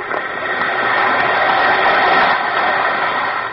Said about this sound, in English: Listen to It Fizz.